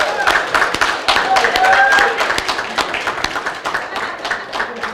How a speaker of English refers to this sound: Now, let's have the wives of the military men stand up. Let's applaud them. Stand up, ladies. They paid a tremendous sacrifice as well.